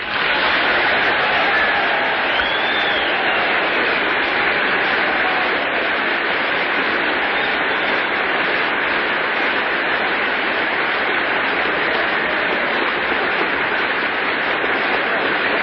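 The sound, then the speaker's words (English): Sustained, dense applause from a large audience as General MacArthur ends his farewell speech, with Speaker Sam Rayburn present, a steady wash of clapping that stays loud and even throughout without pauses, with faint crowd murmur mixed in. “General MacArthur turns amid the general applause, shakes hands with Speaker Sam Rayburn, Vice President Barclay, exchanges a few words with him, turns once again and faces the audience, looking around”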